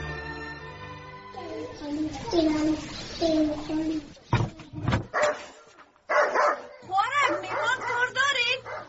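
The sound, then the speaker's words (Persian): In a radio drama, a dog whines in drawn-out, wavering whimpers, then lets out a few sharp, loud barks, followed by more high yelps and whimpering, with voices faintly present. “وی الوم سگ تا بسته کو که نخوری، من جور میترسم.”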